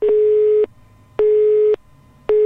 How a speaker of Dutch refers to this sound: Wil je biechten? Druk een 2. Laat je biecht achter na de pieptoon en sluit af met een hekje.